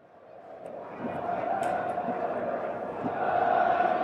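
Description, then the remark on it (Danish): A large football stadium crowd at a Danish national team match roars and chants in unison, shouting a player's surname after the announcer calls out his first name, Martin; a dense wash of many voices holding a sustained shouted tone that swells louder toward the end. “Og hele stadion råber med på efternavnet,”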